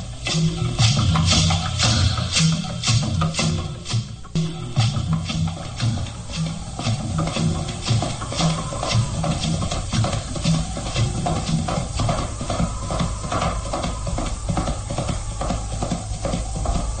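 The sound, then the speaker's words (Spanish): Galloping hooves of a horse ridden by Lucas Van Doren as he approaches, heard from a cemetery, pound out a quick, steady rhythm of sharp thuds that continues throughout, set against a constant airy hiss, with no voices. “Escucho el galope de un caballo.”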